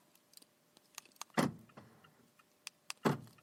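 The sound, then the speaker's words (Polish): Inside a parked car in the underground garage of a residential building: scattered small clicks and jingling rattles, broken by two heavy, booming thuds with a short echoing decay. No one speaks. “W samochodzie, na parkingu podziemnym w domu mojej siostry.”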